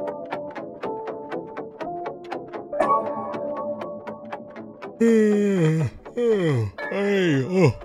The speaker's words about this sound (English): Excuse me, I'm yawning. I'm a little tired.